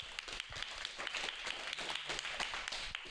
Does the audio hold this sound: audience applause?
yes